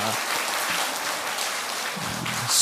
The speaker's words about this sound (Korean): 다들 너무 잘하셨죠? 네. 우리 다시 한번 큰 박수, 격려의 박수와 하나님께 영광의 박수 올리겠습니다.